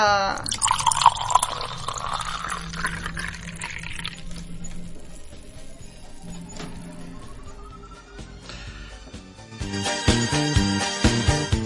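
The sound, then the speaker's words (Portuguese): Water is poured into a glass, splashing and gurgling with a pitch that slowly rises as it fills, fairly loud, before music kicks in near the end. “Vamos tomando aquele copo de água, depois vamos pra homenagem.”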